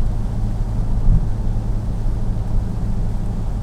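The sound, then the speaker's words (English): A steady low rumble of a car driving in the rain with almost no fuel in the tank, with engine drone and road noise at an even level throughout, no voices and no distinct events. “We don't have any gas in this car either, so the front end is really light right now.”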